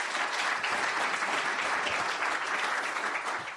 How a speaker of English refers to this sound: And if you could give them a round of applause, they've been working very hard.